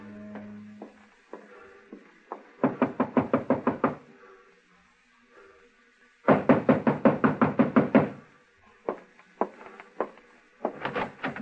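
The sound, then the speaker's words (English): Loud knocking on the door of a room at 6 o'clock: scattered single raps, then two long rapid volleys of about ten blows each, ending in a few more isolated knocks. No one speaks. “It was Angela's time, 6 o'clock, when I heard him on the stairway outside my door.”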